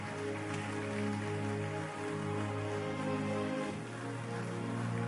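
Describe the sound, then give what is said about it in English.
A church audience gives Jesus a big hand clap during a service, a dense, steady wash of applause that holds for several seconds, with sustained musical tones humming underneath throughout. “Everyone, please give Jesus a big hand clap.”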